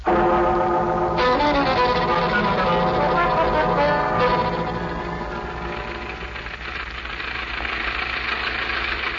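A steady, rumbling bus engine runs continuously, a low mechanical drone with a knocking throb, dipping slightly midway before holding steady again. No one speaks.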